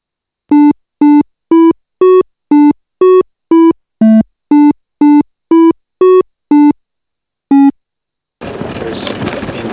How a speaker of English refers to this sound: The next tune is identical to the one you just heard, except that now the tones are all in the same octave. You should recognize this tune without any problem.